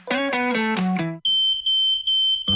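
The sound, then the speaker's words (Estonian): A shrill, high-pitched smoke alarm beeps loudly in three quick pulses with tiny gaps, following a short run of descending electronic tones, in an advertisement for the Baltic fire-safety e-shop suitsuandur.ee. “Õnnetus ei hüüa tulles, küll aga annab see endast märku piiksudes.”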